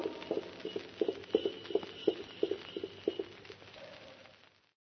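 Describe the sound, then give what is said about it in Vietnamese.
The hooves of a saddled horse, setting off in haste while it is still dark, clip-clop in a steady, fairly quick rhythm: a string of sharp, moderately loud knocks that fade out near the end. “Ngựa đã thăng yên cương, ta đi gấp lúc trời còn tăm tối.”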